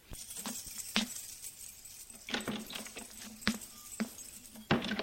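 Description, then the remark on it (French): A front door being opened: a series of sharp metallic clicks and rattles, like keys and a latch, spread unevenly over several seconds, with no voices. “Elle entend la porte d'entrée qui s'ouvre.”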